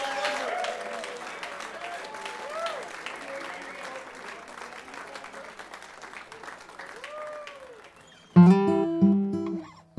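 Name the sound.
concert audience applauding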